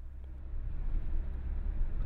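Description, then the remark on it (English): A rental car driving along a road at night, heard as a steady low rumble of engine and tire noise that holds evenly throughout, with no voices. “Now, I was starting to get extremely annoyed, so I went to a car rental booth near the airport and headed off.”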